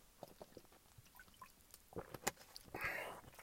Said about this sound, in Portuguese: Bem, vocês agora é que devem ter ouvido mesmo aqui a água passar nesta gargantinha, que foi uma loucura.